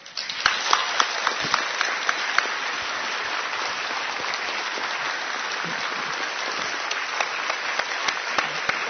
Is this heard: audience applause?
yes